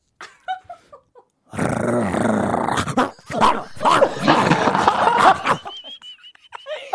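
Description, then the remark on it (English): A person imitates an angry dog, growling and snarling in a loud, rough burst followed by choppy bark-like yelps, with a few faint short sounds before and light laughter near the end. “Can you make the noise of an angry dog barking?”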